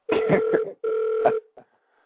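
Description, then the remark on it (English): A telephone rings unanswered during an attempt to get somebody on the phone line, two steady electronic trill bursts with a short gap between them, moderately loud and steady in pitch, trailing off after the second ring. “I'm trying to get somebody on the phone line, but they're not answering their phone.”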